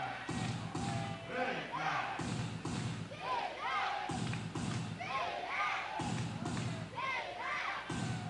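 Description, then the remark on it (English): A baseball crowd chants "Big Mac" in a steady, repeating rhythm, loud voices rising and falling in unison over heavy thumping stomps or claps that keep the beat. “You hear the chants from the crowd of Big Mac.”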